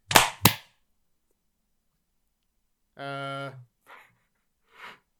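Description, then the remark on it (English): A group claps together on a count of three to sync a recording, landing as two sharp, loud bursts a split second apart rather than one clean hit. After a pause comes a short, drawn-out vocal sound and a few faint rustles. “All right, to make it a little easier for me to sync this, on the count of three, we are all going to clap.”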